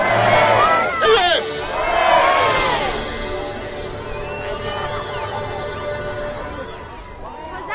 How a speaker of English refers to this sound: Well done, folks. Three cheers for the fireworks team. Hip hip. Hip hip.